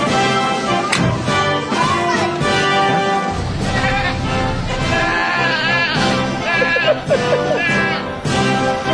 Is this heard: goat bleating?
yes